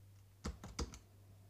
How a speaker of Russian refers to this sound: Знаете замечательную вот эту команду Control Windows Enter? Я, собственно, сейчас эту команду запущу с клавиатуры дисплея Брайля.